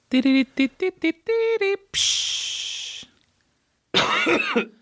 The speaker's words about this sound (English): Oh, my God. I had to cough that whole time.